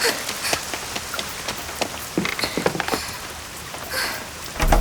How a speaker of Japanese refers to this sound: 雨かしら。 わあ、すごい降ってきた。あー、もう平和を満喫していた矢先にこれ。今日は晴天だって聞いてたのに、こんなゲリラ豪雨に遭うなんてついてないったらありゃしないわ。